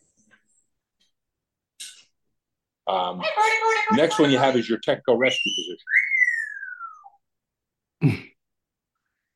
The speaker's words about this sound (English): My bird's going berserk.